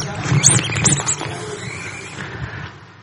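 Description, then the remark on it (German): A frog calls in three quick, high-pitched chirping croaks in the first second, then goes quiet while a low murmur of voices and background rumble continues. “Das ist ein Frosch.”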